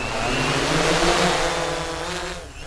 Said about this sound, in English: He lifted the drone above his head. Okay. Jennifer set the hexacopter blades right. Whirring. Mike let go, and it took off.